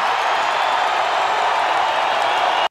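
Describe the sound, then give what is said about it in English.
A wrestling crowd cheers in a loud, unbroken roar that holds steady for a few seconds, with no single voice standing out, then cuts off abruptly. “So there you go. Your main event is set, and that crowd was ready for that.”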